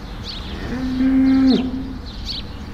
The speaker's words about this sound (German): Einige Kühe muhen in den Ställen